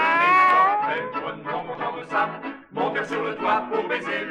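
A cat meows and caterwauls in long, wavering yowls, loud, with a brief break midway before a second drawn-out, warbling cry.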